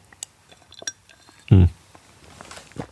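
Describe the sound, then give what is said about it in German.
Someone takes a sip of water before reading the next chapter of a book aloud: faint glassy clinks and taps, then a single short, heavy gulp or glass-knock halfway through, followed by soft rustling and small clicks. No one speaks. “So, ich nehme noch einen Schluck Wasser, damit meine Stimme geölt ist, und dann lese ich euch das nächste Kapitel vor.”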